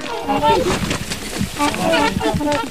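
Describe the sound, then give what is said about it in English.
Trumpeter swans honk in a loose series of loud, nasal, horn-like calls, several overlapping bursts rising and falling in pitch over a few seconds. “They have white feathers with smooth black beaks and got their name for their deep, loud, trumpet-like honk.”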